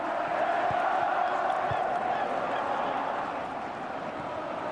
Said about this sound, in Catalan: La gent del Villarreal canta.